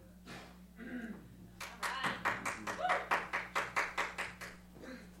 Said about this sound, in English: Same person that clapped about the jazz stuff, so that's kind of cool.